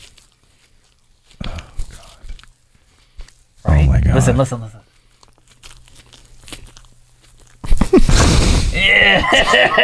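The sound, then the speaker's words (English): Wet chewing of Peeps marshmallow candy by a man comes in loud, squelchy bursts, with quieter stretches between, while people talk and react over it. “It just, the sound of him chewing the peeps are so gross.”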